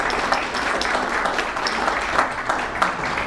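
A crowd applauds steadily, a dense wash of many hands clapping at once, fairly loud and sustained without pause from start to finish, with no voices rising above it.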